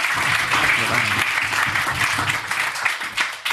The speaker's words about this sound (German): Einen fetten Applaus für den coolsten Gastronom hier in Bottrop.